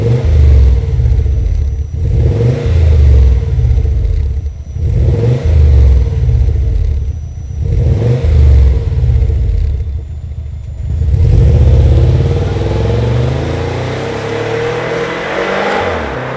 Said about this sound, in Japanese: レガシーツーリングワゴン GFBH5、 マフラーはレーシングチタン GD783R。